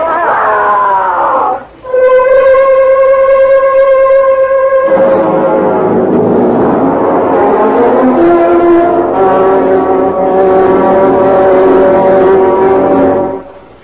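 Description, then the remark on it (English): A loud truck engine roars and revs close by, its pitch climbing and holding for several seconds after a sustained horn-like blare at the start, with no talking. “Hell, back up. I can't. The other truck right behind it.”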